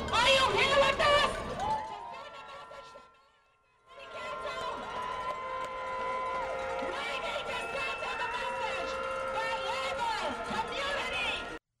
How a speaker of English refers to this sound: Those were the shouts of members of the coalition Fix LA and their supporters. They're calling on city officials to adopt a $15 minimum wage, job creation programs, and other improvements for residents.